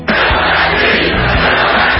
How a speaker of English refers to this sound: A crowd of supporters in Fayetteville, North Carolina is chanting, "Fill that seat."